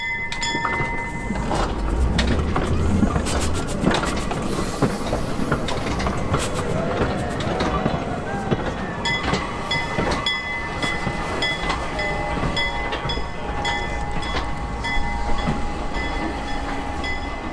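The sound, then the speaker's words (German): A historic steam locomotive, returned to the rails for its 200th anniversary, runs steadily along the rails, rumbling, with rhythmic clanking of wheels over track joints and occasional metallic squeals, loud throughout with no talking. “Im vergangenen Jahr wurde die legendäre Lok zum 200-jährigen Jubiläum noch einmal auf die Schienen gesetzt, unter großem Jubel und mit viel Medienaufmerksamkeit.”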